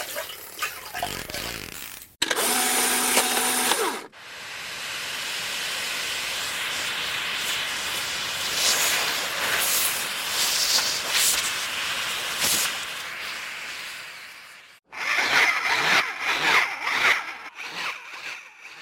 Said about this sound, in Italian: per esempio, un suono molto divertente è quello di una pompa a vuoto, no? Un bel rumore di un motore che crea il vuoto, e questo vuoto, questa pompa a vuoto, quando il visitatore lo mette in moto, crea